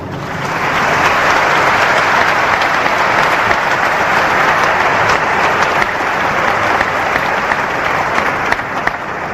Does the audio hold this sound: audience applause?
yes